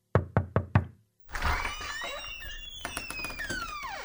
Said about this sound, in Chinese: 一听见敲门声